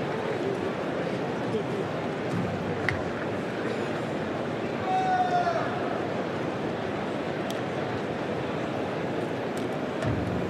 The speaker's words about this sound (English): The murmur of the crowd. What they're witnessing, what they're seeing. No one's going to leave, and they've still got another semi-final to come.